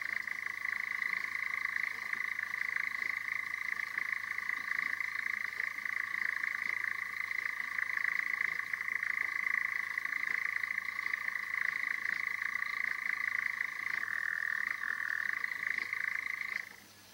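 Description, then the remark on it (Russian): A nightjar churrs its night song after dark in one unbroken, steady trill for about seventeen seconds, a dry mechanical purr at even loudness that cuts off abruptly at the end, with a faint low hum underneath. “Затянул свою ночную песню Козадой.”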